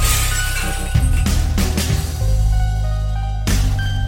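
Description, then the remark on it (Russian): Window glass shatters loudly in a few sharp, crashing bursts as someone jumps through the window, one near the start, another shortly after, and a last one toward the end, all over a heavy, droning low musical backing. “За дверью уже слышнеются шаги, прыжок в окно, разбито стекло в дребезги.”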